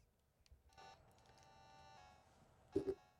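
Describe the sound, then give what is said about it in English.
Telephone dialing tones: a few short electronic beeps spaced irregularly, ending in two louder tones in quick succession, with no talking. “I guess I'll make a phone call.”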